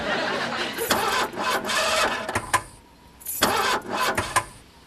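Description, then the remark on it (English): A car engine with an apparently dead battery cranks over and over without catching, grinding loudly in two long rhythmic bursts separated by a brief pause. “The battery seems to be dead.”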